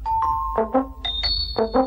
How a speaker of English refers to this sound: My fridge door, and I was going, ba-bam, ba-bam, ba-bam, bam. I said it's like Mr. Men. She said, no, you're thinking of the Flumps. And she's right. My fridge door sounds like the Flumps.